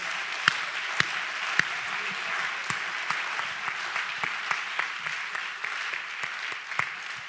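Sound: audience clapping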